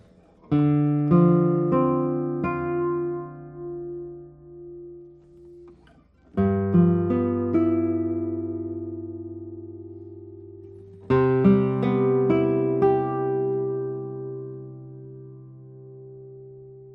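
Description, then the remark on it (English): A 2024 guitar with a spruce top and Indian rosewood back and sides, numbered 375, is played alone in three short phrases of plucked notes and chords that ring out and slowly fade, each phrase starting with a fresh, firm attack. “I won't talk about the sound. I think you are hearing by yourself.”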